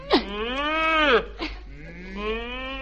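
cow mooing

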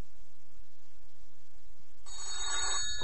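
telephone ringing

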